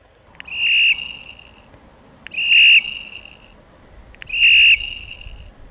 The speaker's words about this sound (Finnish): Uskokaa tai älkää, kuulitte juuri äsken polkupyörän kellon äänen. Nimittäin testissä oli tällä viikolla tämmöinen ihan uudenlainen tai meille ainakin uusi tuttavuus, Nello, magneettinen pyörän kello.